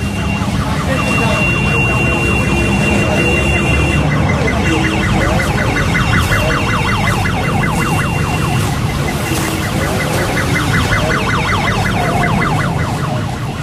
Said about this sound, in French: Voilà les ambulances qui sont là, moitié vides, mais t'as vu ça aussi, c'est encore des ambulances du tiers-monde quoi. Ouais, c'est une pauvre camionnette avec un lit de camp à l'intérieur.